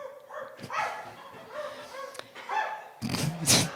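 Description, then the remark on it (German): A dog barks repeatedly from some distance, a steady string of yelping barks with short gaps, growing louder and rougher toward the end. “Irgendwo in der Ferne hören sie einen Hund bellen.”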